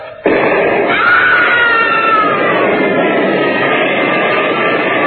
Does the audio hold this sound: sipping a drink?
no